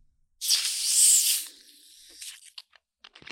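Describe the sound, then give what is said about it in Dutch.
A loud, sharp hiss of gas escaping as a Spa bottle of homemade yellow-orange fizzy ginger beer is opened, lasting about a second, then fading into quieter fizzing with scattered little crackles and pops, no voices. “Jeroen heeft een spa-fles waar iets soort van geel-oranje bruisend drankje uitkomt.”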